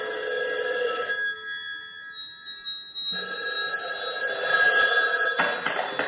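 A telephone bell rings loudly in two long, bright metallic bursts separated by a pause, with a third ring just beginning at the end. No one speaks.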